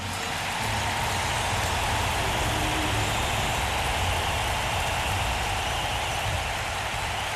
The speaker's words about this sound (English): A special one for our production crew, the men and women who is assembling the stage twice a night. Big round of applause, huh?